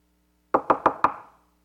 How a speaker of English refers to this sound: At 12:30, you'll get a knock at your door. It will be God.